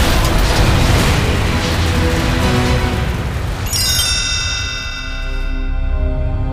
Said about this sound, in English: But as they were driving, a huge explosion hit Tony's truck.